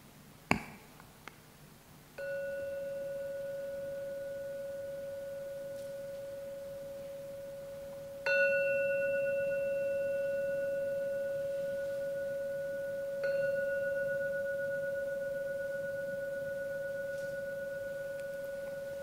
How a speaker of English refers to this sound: close to the end of the meditation, so in a few moments I'm going to ring the gong. See if you can listen to every sound of that gong. And only when the last sound disappears, then to come out from the meditation after the third ringing of the gong.